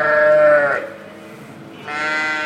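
ewes bleating

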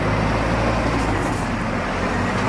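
large truck passing by

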